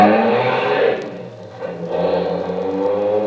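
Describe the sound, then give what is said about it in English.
A Bentley's engine roars steadily, its pitch dipping briefly and then climbing again as it picks up speed while chasing another car, with no voices over it. “Come on, faster, faster. Try and get around this car.”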